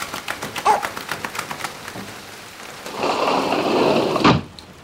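Rain falling, a steady hiss with a quick run of regular tapping drips at first, then swelling into a louder wash before a sharp knock and a sudden drop to quiet.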